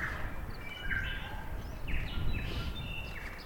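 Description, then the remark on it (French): Several birds sing outdoors with short, overlapping chirps and whistled notes throughout, fairly quiet, over a steady low rumble of wind or movement. “paysage et écouter les oiseaux. Écouter les oiseaux. C'est beau quand même, les oiseaux.”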